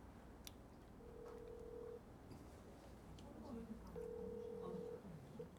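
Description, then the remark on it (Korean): A phone call placed to Na Seon-uk rings out unanswered with two steady, mid-pitched ringback tones, each lasting about a second and separated by a pause, while people murmur and talk quietly underneath. “전화 안 받아서 이 장면이 다 안 나가겠는데? 아무도 안 받아.”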